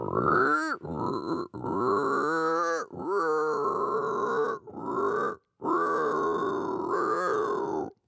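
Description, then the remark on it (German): A man who imitates over 200 animal voices imitates a pig, producing a run of loud, throaty grunts in several long bursts separated by brief pauses, with no other talking. “Er kann zum Beispiel grunzen wie ein Schwein und vieles mehr.”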